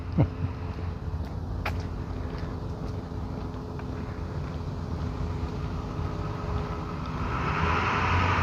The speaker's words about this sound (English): It's another noisy truck. Vroom, vroom. I'm sure your neighbors love you, sir.